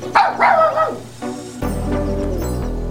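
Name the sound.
dog barking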